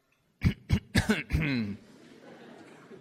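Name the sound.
cough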